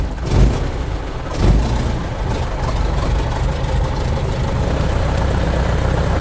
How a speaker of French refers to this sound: Une fois le moteur démarré, nous communiquons avec casque et micro. Le bruit du moteur est bien trop présent pour une conversation normale.